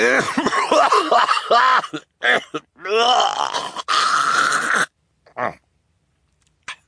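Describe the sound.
A person acts out Mr. Poe's coughing fit into a white handkerchief: a run of loud, rough hacking coughs and throaty clearing sounds with strained vocal groans, then a few fainter short coughs trailing off.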